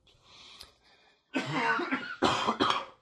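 A few loud, harsh coughs burst out close by after a quiet, breathy opening, the last two sharp and quick in succession.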